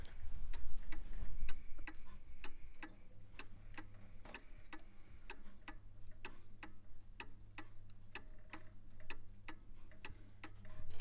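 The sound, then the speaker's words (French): A pendulum clock ticks steadily and evenly, each crisp tick-tock clear, with a low hum underneath and no voices. “vous entendez le balancier qui fait son mouvement... tic, tac, il laisse en fait échapper le temps”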